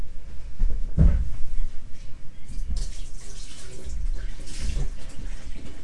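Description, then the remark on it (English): Soapy water is poured to rinse a drain hole and splashes steadily for several seconds, with a heavier gush early on and a couple of rushing surges later. “You can put all that water in if you want. It's got soap in it.”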